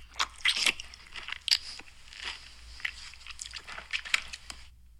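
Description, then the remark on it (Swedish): Wet chewing with loud smacks and crisp crunches, irregular bites and mouth noises repeating over several seconds with no talking. “Lite äckligt. Smaskande.”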